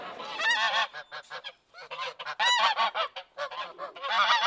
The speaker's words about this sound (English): Geese. Yes, geese.